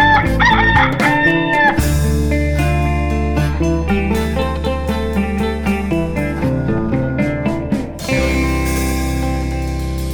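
A rooster crows loudly at the very start, its wavering call quickly giving way to a full, steady band tune that plays on to the end.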